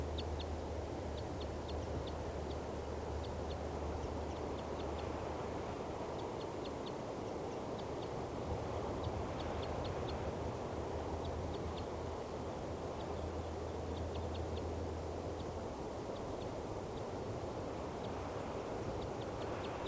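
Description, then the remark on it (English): A bird, bird 395, the mate of a nesting female, gives short, high-pitched chittering calls in loose clusters, repeating throughout over a steady background hiss and a low droning hum, while eating from a food dish. “It was calling, giving some chitter and calls.”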